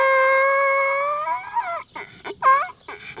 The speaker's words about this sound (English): These donkeys here are some of our ambassador donkeys. This is Buddy and Houdini.